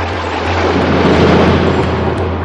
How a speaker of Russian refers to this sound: Но раскручивая свои кольца, она нечаянно задела хвостом одну скалу. И та, оторвавшись от горы, с грохотом упала на землю в соленый океан.